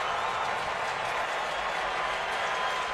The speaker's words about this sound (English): And Pyomps, who got the final three outs in the top of the ninth inning on Wednesday, is going to try to get the final out here tonight with a raucous crowd at Busch Stadium.